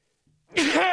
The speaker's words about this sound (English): Meanwhile, with that all happening, and hang on, I got to sneeze. Oh, boy.